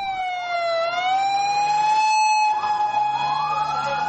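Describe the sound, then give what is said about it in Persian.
Sirens of dozens of ambulances heading to the site of a suicide bombing at a crowded park in Lahore, Pakistan, wail steadily, their rising and falling tones overlapping, loud, with the low rumble of vehicle engines underneath and no voices. “به دنبال انفجار نیرومند در لاهور، ده‌ها آمبولانس به محل رویداد حرکت کردند.”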